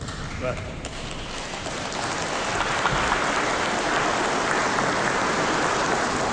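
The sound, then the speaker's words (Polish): An audience in a parish basilica sanctuary, gathered for a Radio Maryja family visit, claps in a dense, steady patter that builds slightly after the first second and holds, with a few faint voices beneath. The applause is modest rather than rousing. “Tak nieśmiało klaszczecie.”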